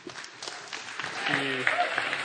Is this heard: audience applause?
yes